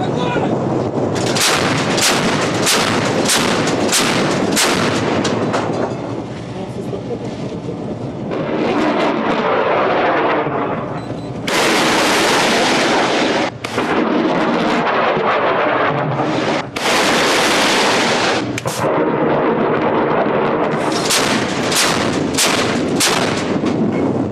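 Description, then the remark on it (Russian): Repeated heavy booms of warships' artillery gun mounts firing during a live-fire exercise in a firing area, loud, in rapid bursts with some sustained roaring blasts, no talking. “Производится зарядка арт-установки. Корабли на боевом курсе в районе проведения стрельб.”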